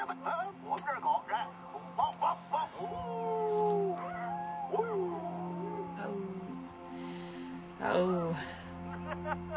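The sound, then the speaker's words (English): Dogs bark, opening with a few short yelps and then breaking into long, wavering whines and howls, with a louder outburst near the end. “make your dogs bark again for me, would you please?”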